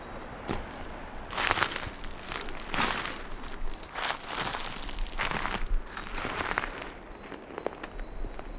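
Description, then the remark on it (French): Crunching footsteps through dry dead leaves while walking off the trail, a steady walking rhythm of crackly rustles, with no talking. “Beaucoup de feuilles mortes.”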